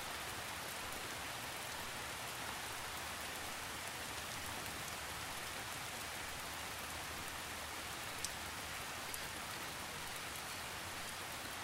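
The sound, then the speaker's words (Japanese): Soft, steady rain patters continuously on the wet leaves of a forest, the leaves swaying in the wind and dropping raindrops, with occasional sharper drops falling against the even hiss. There are no voices. “木の葉が濡れ、風に揺れて雨粒が落ちていきます。”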